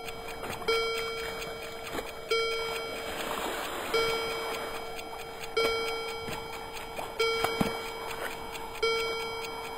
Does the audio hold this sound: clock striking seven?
yes